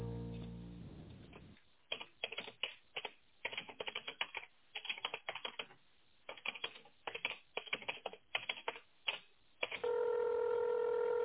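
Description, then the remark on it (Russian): A fast, uneven run of short telephone keypad beeps as an extension is dialed in tone mode on a call to the MosElektro group of companies, with brief pauses between groups, ending in a steady tone. A faint tone hums at the start; no one speaks. “Если вы знаете внутренний номер абонента, наберите его, пожалуйста, в тоновом режиме.”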